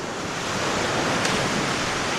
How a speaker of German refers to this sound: Die Brandung des Atlantik, der gegen die Klippen schlägt.